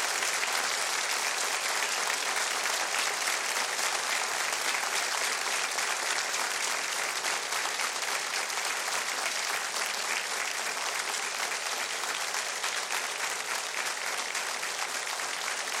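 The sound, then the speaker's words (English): Sustained audience applause given as a tribute to people in Israel, a dense steady wash of clapping that holds at an even, loud level for about sixteen seconds without pausing or fading. “So tonight, I ask the audience, join me in a special moment of tribute and applause to those brave souls in Israel who are fighting for their lives and fighting for freedom for all of us.”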